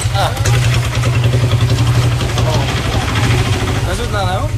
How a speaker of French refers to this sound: Et on est à 15 sur cette moto. On va s'enliser.